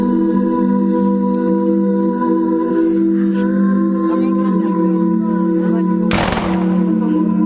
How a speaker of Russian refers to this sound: После этого к мемориалу возложили венки, прозвучали выстрелы, как памятный салют.